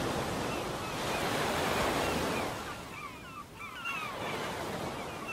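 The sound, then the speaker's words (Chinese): Steady roar of ocean surf at a beach of fine, soft sand swells up, eases briefly, then builds again, with the hiss of a salty sea breeze blended into the broad wash of waves. No voices. “迎面吹来咸咸的海风，空气里闻得到轻松自在的味道。”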